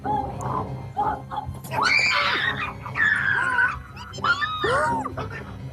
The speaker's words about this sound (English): She's screaming because she's in a room full of heads.